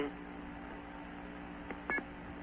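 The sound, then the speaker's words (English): A payphone's coin-deposit beep as a dime is deposited: a short electronic tone blip followed by a brief two-tone pulse, clear over a steady low hum of line noise. “We heard the beep for the dime.”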